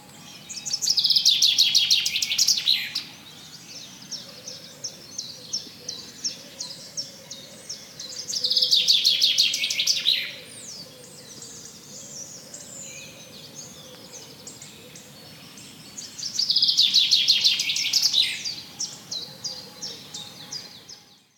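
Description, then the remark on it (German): A bird sings in three bright, chattering bursts of rapid high notes, each a few seconds long, separated by quieter pauses with faint background twittering. No one speaks. “In diesem Moment stehe ich einfach nur da, betrachte den Vogel und lausche seinem bezaubernden Gesang.”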